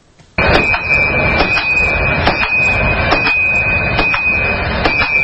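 A blacksmith's hammer strikes an anvil in a steady rhythm, about one blow per second, each a sharp metallic clang over a continuous high-pitched ring, in the only blacksmith's workshop on a central street of Panjakent, Tajikistan. No voices.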